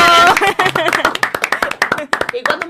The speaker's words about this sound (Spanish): ¡Un aplausito!